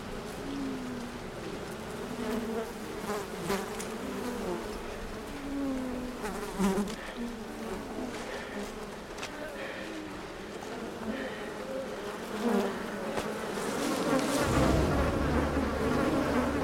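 bees buzzing

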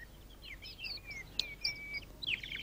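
small bird chirping

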